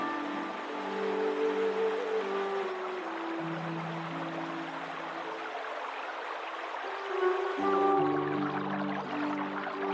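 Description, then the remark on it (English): A steady rushing wash of flowing creek water runs throughout, moderately loud, with low sustained tones shifting underneath it. No one speaks. “If there was gold in this creek, the nuggets would be found in the deep, clear pools.”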